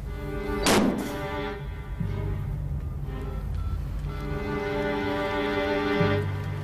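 A door shuts with a single heavy thunk near the start, then a low, steady tonal drone carries on underneath with no talking.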